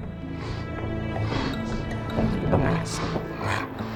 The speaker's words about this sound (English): I think that's a real elephant.